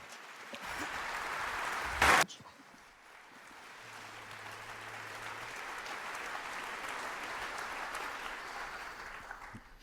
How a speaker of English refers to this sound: I kindly ask all of you here in so large numbers to kindly applaud for our speakers.